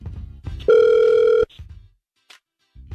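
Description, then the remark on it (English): A single loud, steady electronic ring of an outgoing phone call from the Hot 96.9 radio station, lasting under a second, framed by low line rumble and a faint click before quiet returns. “We're going to try and call her next, okay?”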